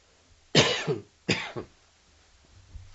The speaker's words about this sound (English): Excuse my coughing, please.